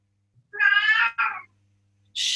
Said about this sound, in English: Sorry, my cat's being loud.